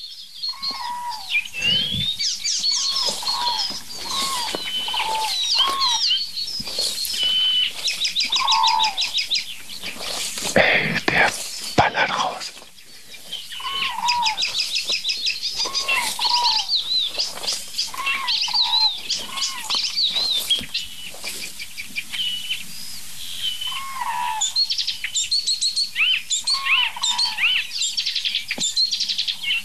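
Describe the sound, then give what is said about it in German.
A single wild bird, a typical bird of open country that likes bushes and dense hedges, calls almost nonstop for half a minute: bright chirps, whistled notes and quick repeated phrases, broken midway by a few short, noisy fluttering bursts like wing flaps. “Oh, das war keine Imitation.”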